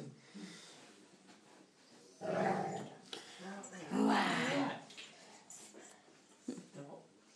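A dog growls and whimpers in a few uneven, throaty bursts, with snuffly breathing in between. The loudest stretch comes midway, then it settles into softer grumbles.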